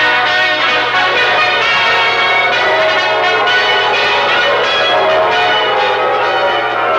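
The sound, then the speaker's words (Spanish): A bronze bell rings out joyfully in a continuous, loud peal, its rich overlapping tones sustaining and swelling throughout, with no voices present. “Así nació, entre los tallidos jubilosos de una broncínea campana, la que habría de ser muy pronto, por el esfuerzo y la virtud de sus hijos, una nación grande y poderosa.”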